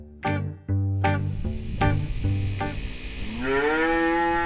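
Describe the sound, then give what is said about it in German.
Several brown cows moo in overlapping calls, one after another, with deep harmonic lows rising into a long drawn-out final moo, as they come in from the pasture in the afternoon and amble toward the stalls. No talking. “Nachmittags kommen die ersten Kühe von der Weide. Gemächlich trotten die braunen Rinder in Richtung Ställe.”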